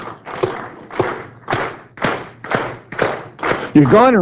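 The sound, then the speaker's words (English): A crowd claps together in a steady rhythm, about eight loud, evenly spaced beats roughly twice per second, with a voice rising over the final beat. “Anyway, let's clap.”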